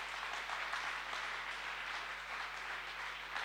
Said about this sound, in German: Ganz besonders möchte ich auch nochmal, sollten Gäste da sein, die zum allerersten Mal da sind, euch einen ganz besonderen Applaus und nochmal herzlich willkommen.